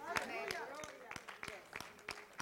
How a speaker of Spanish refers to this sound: Ese aplauso es para Él, porque Él es el que tiene el primer aliento de vida y el último en mi vida.